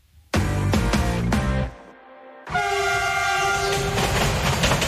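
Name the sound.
passing train with horn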